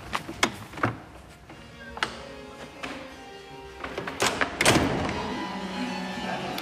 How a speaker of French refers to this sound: On ferme la porte en sortant